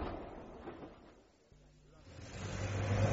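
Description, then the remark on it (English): Taxi engine noise in heavy traffic in London on a sunny day, with a steady low hum and rumbling road noise. The engine thins out briefly, then a deeper drone swells and grows louder toward the end, as if the taxi is pulling away in traffic. “A taxi. Heavy traffic.”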